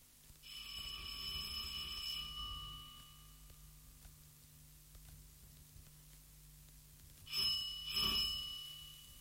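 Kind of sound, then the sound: household object, doorbell ringing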